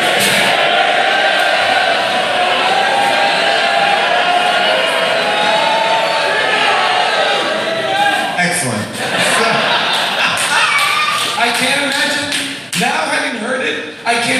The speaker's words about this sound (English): Like hundreds of people yelling and...